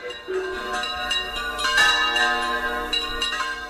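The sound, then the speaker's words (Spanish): Church bells rung by bell-ringers peal together in a dense, overlapping clangor, several bells struck in quick succession with long ringing overtones, loud with no voices, played live from la Cunza. “por contárselo a los oyentes de Radio Euskadi, que como yo, habrán vibrado con el sonido que estáis escuchando y dejándonos en directo desde la Cunza.”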